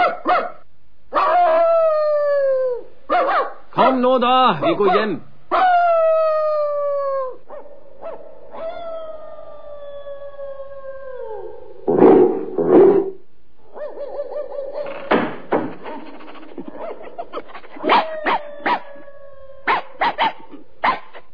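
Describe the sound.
The dog Pongo of Regent's Park howls an all-dogs alarm in a series of long, drawn-out wails that slide downward, broken by short yips and barks, while a man briefly speaks near the end, telling him to be quiet.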